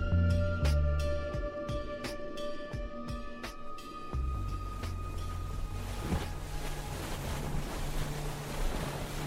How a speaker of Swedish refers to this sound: Den här gummibåten var snabb så vi studsade på vågorna i full fart ut dit vi trodde den här båten skulle ligga. April 1964. Över Öresund studsar en liten gummibåt fram på vågorna.